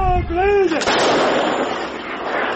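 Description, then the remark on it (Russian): A short shouted voice is cut off by a loud artillery gun firing at the front in frosty winter weather, under orders to suppress an enemy gun: a sharp boom that rolls into a long, rumbling roar and hiss as the blast dies away. “Поступает команда подавить огнем орудие противника.”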